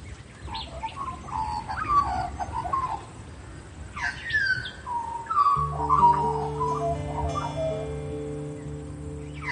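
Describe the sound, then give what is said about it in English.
An Australian magpie sings a rich, warbling song of fluting, gurgling notes that rise and fall. About halfway through, a low, steady droning tone enters underneath and continues to the end. “Swooping like a devil or singing like a diva, the magpie can be hard to miss.”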